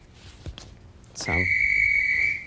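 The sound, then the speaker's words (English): A single sharp whistle blast sounds near the end, a steady shrill tone held for over a second after a brief thump, loud with faint background noise. “That sounds like a whistle.”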